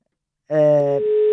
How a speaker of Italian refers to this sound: Scusate, vi faccio sentire anche lo squillo, così siete partecipi di tutti i particolari di cronaca, ecco.